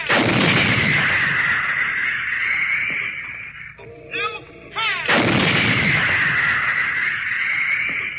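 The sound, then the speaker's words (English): A howitzer at a gun position fires two heavy, booming shots at an advancing communist offensive, each followed by a long roaring rumble, with a brief high whistling sweep of a shell hissing through the air between them. No one speaks. “Gun Position as this howitzer pounds round after round into the advancing human sea, which this week again began to attack.”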